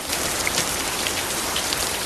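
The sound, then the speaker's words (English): Heavy, pouring rain at night hisses steadily and loudly across the whole clip, a dense continuous wash with scattered brighter drop impacts and no voices. “Nighttime, pouring rain.”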